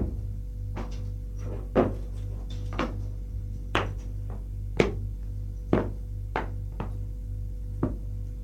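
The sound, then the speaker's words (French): A door is handled, opened and shut as someone enters, with a string of sharp wooden clunks and clicks at an uneven pace over a steady low hum. No one speaks. “Elle entre.”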